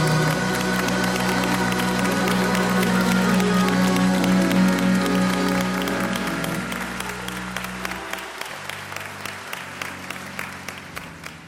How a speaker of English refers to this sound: Now come on and clap your hands.